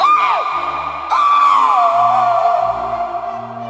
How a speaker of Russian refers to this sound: Затем морозную тишину пронизал надрывный крик.